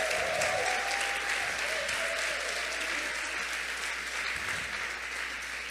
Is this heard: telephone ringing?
no